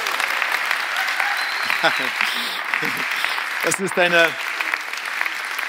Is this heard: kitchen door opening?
no